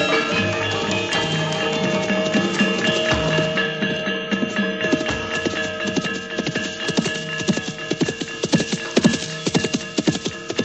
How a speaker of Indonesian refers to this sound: Raden Joyo Suponto mengendalikan kuda dengan kencang sekali, bagaikan menepis angin dan menyibakkan badai. Kuda hitam itu melompat bagaikan terbang, melayang menyibak semak belukar, dan melintasi rerimbunan pohon yang menghalang-halanginya.